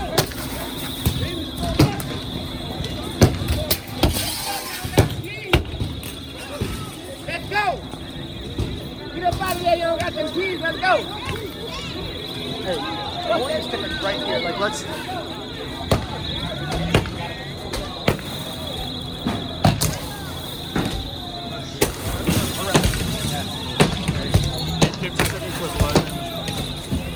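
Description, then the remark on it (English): Rioters smashing cars and glass at a car lot: sharp bangs and crashing impacts hit irregularly, some in quick bursts, over shouting crowd voices and a steady high-pitched whine in the background. “I'm in a car lot right now, but they started attacking another car lot. Watch this.”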